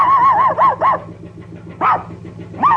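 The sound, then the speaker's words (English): A dog barks from atop a tugboat on a river at night under a full moon, in a quick burst of three, pauses, then gives two more spaced barks, each loud and slightly yelping, over a steady low engine-like rumble. “A dog barks from atop a tugboat.”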